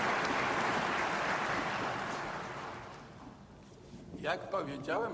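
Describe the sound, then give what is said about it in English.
A crowd at the Warsaw School of Economics applauds the Ukrainian students, the Ukrainian nation and President Volodymyr Zelensky, after he is given an honorary doctorate. The clapping is a dense, steady wash that gradually fades over a few seconds, then a voice starts speaking. “A huge round of applause to the Ukrainian students, the Ukrainian nation, and the Ukrainian president.”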